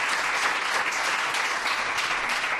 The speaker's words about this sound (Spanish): Quiero que volváis a dar ese aplauso para que se escuche que estamos haciendo radio en directo.